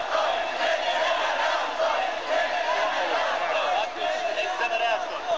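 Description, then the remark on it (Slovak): A large crowd at a demonstration against a reactor shouts and roars together in response to a speaker, a sustained, dense wall of voices, loud and continuous throughout with slight surges. “A DAV reaguje.”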